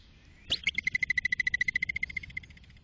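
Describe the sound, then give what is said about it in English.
A groundhog (woodchuck, or whistle pig) gives its alarm whistle, the noise it makes when scared to warn others: one shrill, sharply rising whistle, then a fast, even trill of about twenty high-pitched pulses lasting nearly two seconds before it stops. No one speaks. “So yeah, this is what they sound like when they make a whistling noise.”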